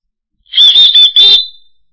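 A small whistle is blown in a quick series of three or four shrill, high-pitched blasts with a slight warbling trill, loud and alone, ending with a short fading tail.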